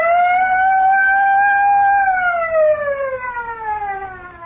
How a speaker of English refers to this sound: Well, Mr. Denton, your auto alarms are certainly loud enough.